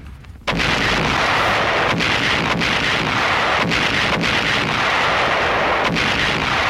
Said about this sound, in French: Samedi 13 mars, il est un peu plus de 17h lorsqu'une pluie d'obus s'abat sur Dien Bien Phu.